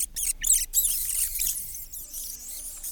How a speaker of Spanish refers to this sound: «¡Es una idea estupenda!», exclamaron los ratones, dando chillidos de felicidad.